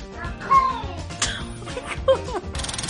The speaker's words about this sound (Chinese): 猫咪有洗澡恐惧症，求救声听起来像是说 I'm cold， 十分逗趣。